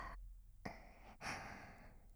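Heavy, excited breathing: a short breath, a quick sharp intake, then a long, loud, airy exhale that trails on. No one speaks.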